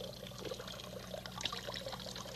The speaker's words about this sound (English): Look, it comes up. Mm-hmm. There it is. Now the water goes out.